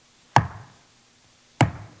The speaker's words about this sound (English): And as they worshiped, the sound of the hammering, the reminder of the love of Jesus, who could have come down from the cross, but he took the nails because he loves you.